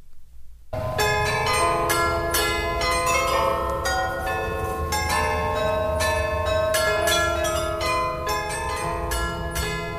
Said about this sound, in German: Hörst du? Das ist das Glockenspiel